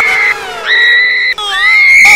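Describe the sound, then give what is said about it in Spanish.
A woman lets out a loud, high-pitched scream from an old, run-down house at night, sustained for about two seconds in three connected bursts, with the pitch jumping higher partway through. “De pronto se oye desde aquel lugar un grito de una mujer.”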